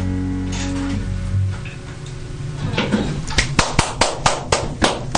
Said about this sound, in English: But that was fantastic. It was really good. I was clapping for many there. That was great.